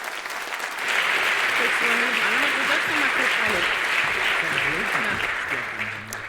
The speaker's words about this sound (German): Bitte nochmal einen riesengroßen Applaus für die beiden und ganz viel Spaß.